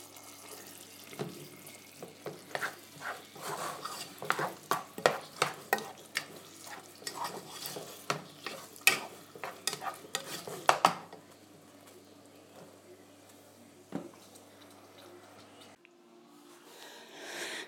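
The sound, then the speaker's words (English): A pan of chicken masala is stirred, with a quick run of spoon scrapes and clinks against the pot over a soft sizzling bubble, then the stirring stops and a quiet simmer remains. No one speaks. “And that's the chicken masala simmering away, and oh my god, the smell.”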